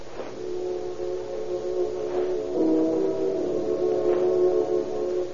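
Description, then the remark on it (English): A car engine drones steadily for several seconds, a low, continuous hum that swells slightly midway, as a car is driven to the ferry, with no voices over it. “Inspector O'Farrell and Inspector Connolly take out Riley's hotel and follow his car when he and Johnny Rabb leave for the ferry.”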